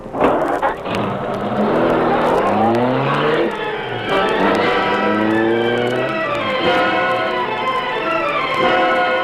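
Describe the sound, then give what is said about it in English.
A car engine roars loudly as the car speeds off in pursuit of another car, revving up through several rising gear changes in quick succession, with no voices over it. “Follow that car.”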